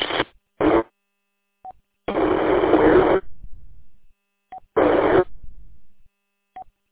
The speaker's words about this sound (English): I don't know if you recognize it, but the gentleman just asked about his signal. I hear a tone in there with your signal.